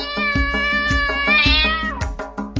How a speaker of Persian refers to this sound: شش تا گربه نشستن میو میو میکنن.